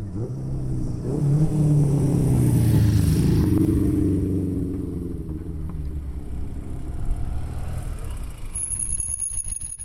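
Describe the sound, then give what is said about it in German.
Vintage Vespa scooters in a race of old motor vehicles climb the old Gotthard Pass road, the Tremola, in Switzerland on a windy July day, their buzzing two-stroke engines rising in pitch and swelling to a loud peak before fading into a steady, rough drone with some clatter. “Antike Vespas an einem Rennen von alten Motorfahrzeugen, wo an diesem windigen Julitag stattfindet.”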